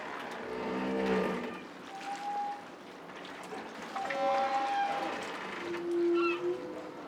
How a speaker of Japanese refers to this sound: スパイスのように時々鳴いてくれるカモメや、この時間軸上で最高のタイミングで鳴ってくれる船の警笛、もはやサウンドアートだと思いませんか？